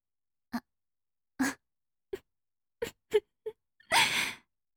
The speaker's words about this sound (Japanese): 大きなあくび。 ほんと。おっきくて、かわいいあくび。